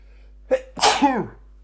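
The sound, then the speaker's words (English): A single loud sneeze from a person with hay fever and a chest infection: a short sharp intake followed by a forceful explosive burst that trails off with a voiced tail. “I've got like hay fever, I've got chest infection, I'm sneezing.”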